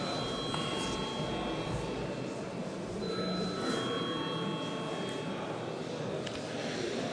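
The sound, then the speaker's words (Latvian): A steady electric parliament bell, rung at the chair's request before a vote, rings continuously for several seconds, a shrill, buzzing metallic tone held at an even loudness over a low background hum. “Paldies, lūdzu zvanu.”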